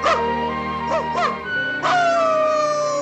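Dogs passing the news on to Pongo and Perdita bark in a few sharp, ringing bursts, then one breaks into a long, falling howl that carries on to the end, loud.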